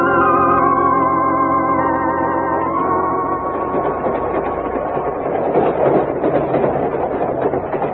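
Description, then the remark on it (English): A train engine runs on rails, a steady loud rumble with a harmonic drone at first that gives way to dense rattling and clattering of wheels, with no voices. “This engine was going much too fast.”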